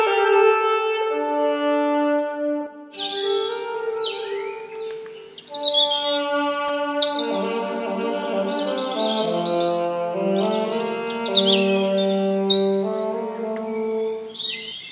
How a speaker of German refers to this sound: Vogelgezwitscher, Menschen sitzen im Biergarten, wie schön.